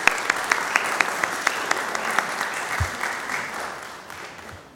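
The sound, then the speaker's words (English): An audience applauds steadily during a service, congratulating a member who was married on October 31st in a desert in Nevada. A dense wash of clapping with a few sharper individual claps standing out early on, gradually thinning and fading toward the end. “She was married on October 31st in a desert in Nevada, and I applaud her.”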